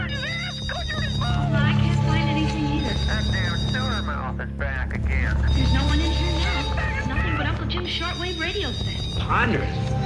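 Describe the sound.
A telephone rings with a steady, bright electronic tone that persists throughout, fairly loud, layered with dense busy sound and voices.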